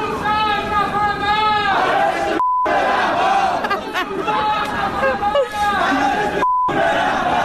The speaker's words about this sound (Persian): الان دیگه بالا و پایین شهر یکی شده و همه جا ملت دارن شعار میدن جمهوری اسلامی نمیخوایم و توپ تانک فشفشه آخوند باید گم بشه.